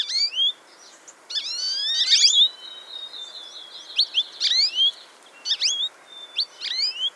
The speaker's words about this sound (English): You see a flock of little yellow and black birds flitting around. It's a bunch of American goldfinches.